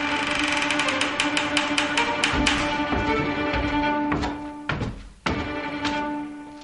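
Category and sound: human body sound, footsteps approaching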